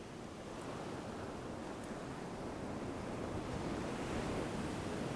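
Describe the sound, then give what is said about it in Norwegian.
Ocean surf washes in and out with a steady, broad rushing roar that swells slightly toward the end, continuous, with no voices. “Bli bølgen som skyller inn og ut.”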